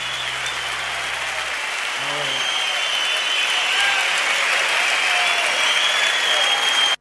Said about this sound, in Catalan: aplaudir, sí, o què?